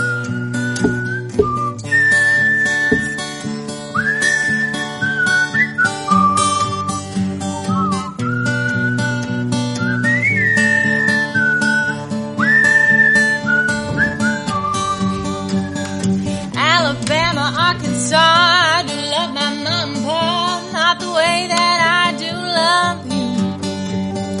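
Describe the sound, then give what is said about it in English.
Several people whistle a bright melody together over steady instrumental backing, sustained notes gliding between pitches, then a busier, warbling stretch near the end, loud throughout. “I think I've lost the ability to whistle thanks to that beer mic Chuck gave me, so if you guys want to take this top part”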